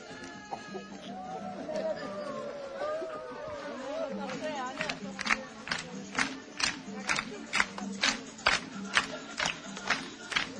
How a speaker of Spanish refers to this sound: Ellas mismas se jalean con las palmas, ellas mismas se animan a seguir practicando el ejercicio.